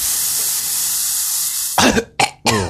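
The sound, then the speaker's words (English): A steady, loud hiss of a Scent of Success aerosol spray, a Sega gift tied to the Football Manager 2009 game, runs for nearly two seconds, then stops as someone coughs three times in quick, harsh bursts. “And they sent us this cool spray, which is called the Scent of Success.”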